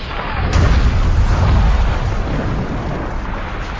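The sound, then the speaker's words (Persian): A loud, heavy explosion as a helicopter collides with a refueling tanker aircraft bursts out and rolls on as a deep, sustained rumble, with crackling debris-like noise layered over the low roar for several seconds. “صدای انفجار مهیبی هوا را شکافت.”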